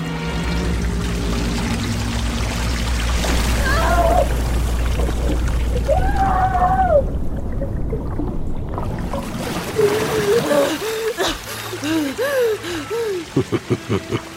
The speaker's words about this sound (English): With a pull of this lever, the water reserves come flooding out of the pipes you see in the ceiling.